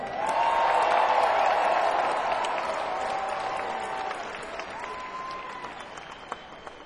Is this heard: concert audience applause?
yes